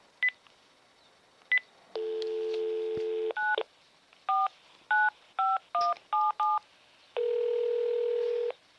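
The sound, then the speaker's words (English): A house landline phone is used to dial a cell phone number: two short clicks, a steady dial tone, then a quick run of about eight crisp touch-tone beeps, followed by a long steady tone. No one speaks. “I am going to use the regular phone, house phone, and call my cell phone, and I will show you what happens when you do that.”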